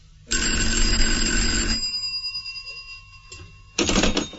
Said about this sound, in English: It began with a phone call.